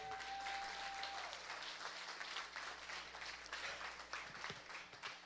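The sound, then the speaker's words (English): A church audience breaks into sustained, dense applause for a couple, many hands clapping at once in a full wash that stays steady and loud for several seconds, with a faint electronic tone at the start. “Bless them with a big hand clap.”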